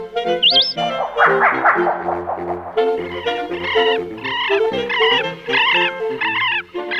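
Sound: bird calls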